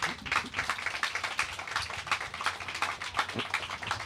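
A crowd applauds steadily, many hands clapping in a dense, continuous patter that stays fairly even in loudness throughout, with no voices rising above it.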